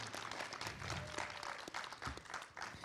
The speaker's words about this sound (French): Et à ma droite, des applaudissements pour tout le monde